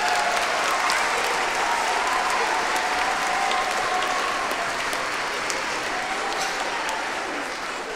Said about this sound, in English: So a big round of applause for them.